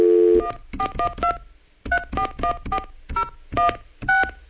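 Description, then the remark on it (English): A steady telephone dial tone cuts off, followed by a rapid run of touch-tone beeps as a number is dialed to place a call to Pittsburgh, Pennsylvania, each paired tone short, evenly spaced and clear. “Oh, there's dial tone now.”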